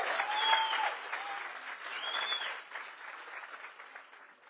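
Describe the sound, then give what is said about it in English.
An audience applauds together in praise of God, a dense, steady wash of many hands clapping that starts strong and slowly tapers off, with no one speaking over it. “Oh, come on, give God a hand clap.”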